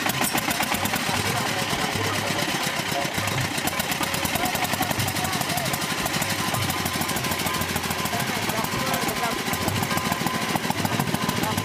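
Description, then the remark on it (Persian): A sugarcane press machine's engine, powered by a generator, runs steadily with a loud, dense mechanical rattle and rapid pulsing throb that continues without pause throughout. “این ماشین چالان شد.”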